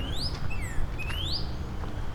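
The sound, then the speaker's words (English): Clear, whistled bird calls repeat, each a sliding note that rises and falls: a male northern cardinal singing beside a walking path at Turtle Bay, where frogs hop into the water. A steady low rumble of outdoor background noise runs underneath. “I can hear cardinals calling at me.”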